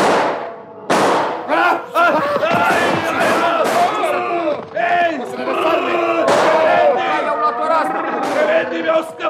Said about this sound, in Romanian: Am auzit eu împușcăturile.